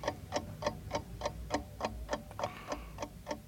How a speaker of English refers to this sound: That was the scaffolding, thank you very much.